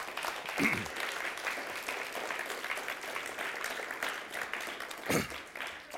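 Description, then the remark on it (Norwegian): A crowd breaks into steady applause, a dense wash of many hands clapping at an even level for several seconds, with a couple of sharper bursts standing out. No one speaks over it. “Det er verdt en applaus her og nå.”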